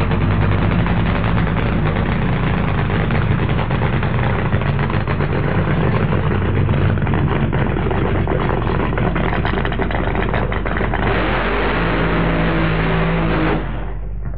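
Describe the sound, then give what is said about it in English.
A drag racing car engine, one that reaches 0 to 100 miles an hour in about 1 second, is warmed up before a run, loud and steady, a deep rumbling drone with rough, crackling texture that holds for about thirteen seconds before cutting off abruptly. “it's particularly important in drag racing to actually warm the engine before you do a run in it.”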